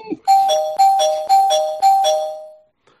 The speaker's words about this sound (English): So, as Roddy said, let me ring the spoiler bell because now we're really getting into spoiler territory.